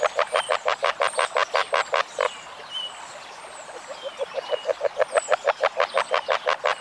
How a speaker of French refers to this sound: Au printemps. Là, vous avez toutes les chances de voir ou d'entendre par exemple la grenouille rousse. La grenouille agile.